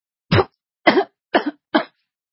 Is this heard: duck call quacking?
no